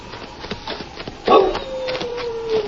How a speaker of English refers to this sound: That must be Prince, old Lemp's dog.